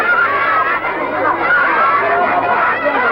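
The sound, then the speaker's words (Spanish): A crowd of children clamors all at once, crowding round to offer their goods for sale, many voices calling and chattering over each other in a loud, steady hubbub with occasional higher-pitched shouts. “La chiquillería se arremolina alrededor de Emmanuel ofreciendo sus productos.”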